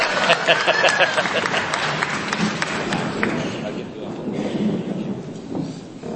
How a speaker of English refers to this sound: You can give me a clap if you want. If it's not tapu, you know.